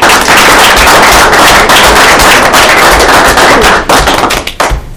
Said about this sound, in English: So if we could just applaud Jim.